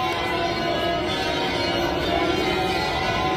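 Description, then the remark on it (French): Church bells at a church in Montreal, rung by the priests on a Sunday, ring in a dense, continuous peal, their overlapping metallic tones blending into a loud, steady wash with no pauses and no voices. “Les prêtres font sonner les cloches parce qu'il y a des prières de rue musulmanes”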